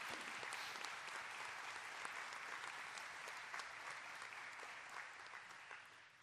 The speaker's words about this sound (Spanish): Así que bienvenidos, hermanos, que el Señor los bendiga, y les vamos a dar un nuevo aplauso de bienvenida a los hermanos, ¿verdad?